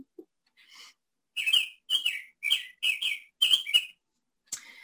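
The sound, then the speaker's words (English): A clock chimes with a run of high, bird-like chirps: about six quick, bright tweeting bursts in a steady rhythm, fairly loud, with no talking over them. “Those are my, sorry, that's my clock.”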